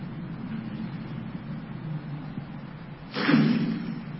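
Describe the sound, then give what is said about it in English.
Water poured down a deep well: a few seconds of low, steady rumble, then one brief, muffled splash with a hollow echo that fades quickly. No voices. “I want you to dip a cup of this water and pour it down the well.”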